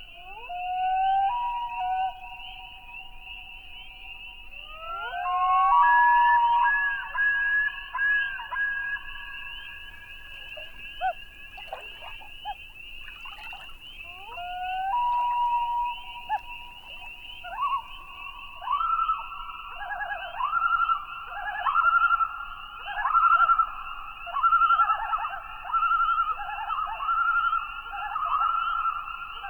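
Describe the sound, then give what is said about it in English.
A common loon's wail call, long and mournful like a wolf's howl, rises and holds in drawn-out notes, repeating several times over a steady high background hum, with no one speaking. “Loons make several different sounds, including the undulating yodels of the male, the whale call, which sounds like the howl of a wolf, the loony-sounding tremolo call, and also soft hoots.”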